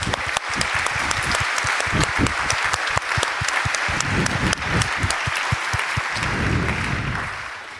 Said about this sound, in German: Und jetzt kriegt ihr mal einen Applaus. Vielen Dank für eure Arbeit.